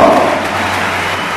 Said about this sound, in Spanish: pero bueno, vamos a escuchar primero el homenaje a Juan Carlos Pastor, la ovación que le brinda Huerta del Rey.